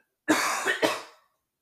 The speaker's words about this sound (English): So, sorry, as I'm taking some water here, I'm about to cough.